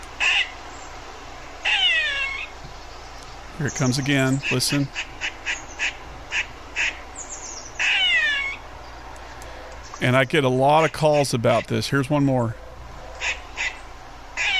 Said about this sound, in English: Get a lot of calls about what's this bird that's whining in the backyard. That's not a bird. This is the eastern gray squirrel. And the gray squirrel is also known as a cat squirrel by colloquial name and hunter name.